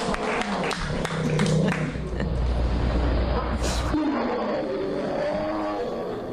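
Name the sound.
bear growling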